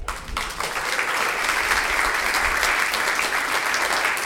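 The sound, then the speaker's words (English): A church audience applauds a Meals on Wheels Volunteer of the Year steadily and fairly loudly, many hands clapping in a dense, continuous patter that holds at an even level for several seconds with no voices breaking through. “So she's not here right now, but I'll tell her you all clapped, that you love her as much or more than first service.”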